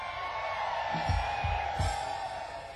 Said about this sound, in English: Come on, let me hear a good moonshine whiskey yell out there somewhere.